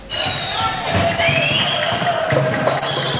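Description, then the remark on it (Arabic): A crowd at a football match in Roumieh prison, Lebanon, cheers and murmurs steadily for the whole stretch, with occasional dull thuds of the ball being kicked under the continuous wash of voices. The match is a final between the champion of the convicts' building and the champion of the juveniles' building. “أقامت الجمعية اللبنانية للدفاع عن حقوق السجناء مباراة كرة قدم في سجن رومي.”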